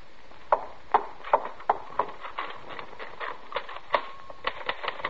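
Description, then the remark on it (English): A steady run of sharp mechanical clacks from typewriter typing, fairly loud, tapping at an uneven but brisk pace with no voices. “Then I was back at my typewriter and everything was fine.”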